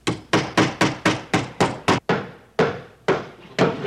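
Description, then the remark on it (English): Steady hammering, about a dozen sharp, loud blows struck in quick succession, each ringing briefly before the next, with a short pause near the end before the pounding resumes. “Will you stop that hammering?”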